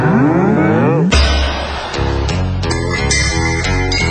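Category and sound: animal, cows mooing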